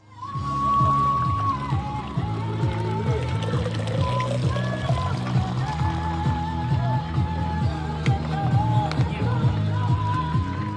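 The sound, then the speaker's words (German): Water pours steadily into a bottle at a marathon aid station up by a lake at altitude, amid a busy outdoor scene, with rhythmic background music playing throughout and faint voices mixed in, the sound holding at an even, fairly loud level. “oben am See, wo man dann schon oben in der Höhe ist, da habe ich mal so einen kurzen Ton aufgezeichnet, wie das so an so einer Verpflegungsstelle sich anhört, wenn man sich Wasser holt mit Musik im Hintergrund.”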